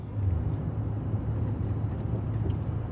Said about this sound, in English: Now the car travels along suburban streets.